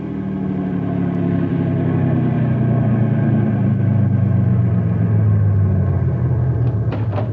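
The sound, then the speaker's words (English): A car engine runs with a steady, loud, low rumble throughout, its pitch sinking slightly toward the end as the car slows and is stopped. No voices are heard. “When I give the word, Sam, stop the car gently and everybody out.”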